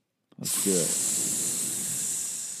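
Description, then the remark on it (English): A loud, steady sizzle bursts in abruptly after a brief click and hisses continuously for a couple of seconds, like food hitting a hot pan, with a faint voiced sound briefly underneath near the start. “That's a sizzle of the hot take.”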